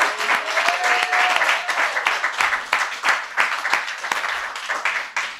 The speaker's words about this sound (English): One more big round of applause for all of our storytellers.